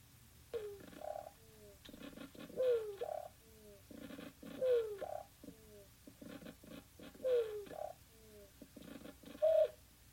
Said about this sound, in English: Some researchers have compared the vibrational soundscape of a plant to choruses of frogs or crickets. So just for a second here, let's take a listen to the sound leafhoppers make vibrating a plant.